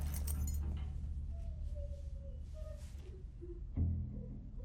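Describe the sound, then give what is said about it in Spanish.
A brief jingle of metal keys being taken out at the door of a second-floor apartment at the start, then a low hum with faint tonal whines and a single dull knock near the end. “Se acerca a la puerta del segundo derecha y saca las llaves.”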